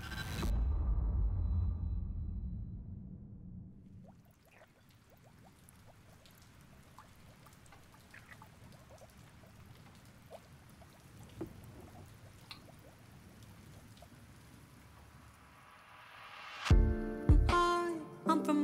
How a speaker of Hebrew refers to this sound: תשמעי רגע את השיר, יש לו קטע. זה מתחיל עם גשמים.